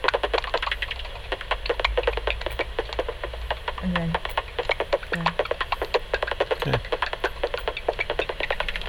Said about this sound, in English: And a feeding buzz. You had a feeding buzz on your bat detector, which is like a little raspberry, and it's the point at which the bat takes its prey.